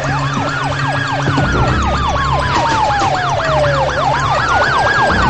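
Several police sirens wail at once, loud: one yelps in rapid rising-and-falling cycles while another sweeps slowly up and down, over a low engine rumble, with no talking.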